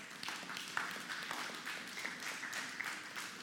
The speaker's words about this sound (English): Come on, let's give the Lord a clap offering.